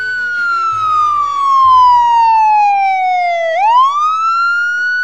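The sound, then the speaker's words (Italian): A police car siren wails loudly, its pitch gliding slowly downward for several seconds before swooping back up, with a faint low engine rumble underneath at first. “La polizia! La polizia!”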